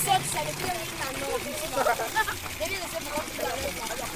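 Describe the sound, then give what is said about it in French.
Water runs steadily from a tap mounted on the outside wall of a transport company in the Mvogada neighbourhood of Yaoundé at 5 pm, a continuous splashing hiss, with indistinct voices of people talking mixed into the background. “L'eau sort du robinet installé sur le mur extérieur d'une entreprise de transport.”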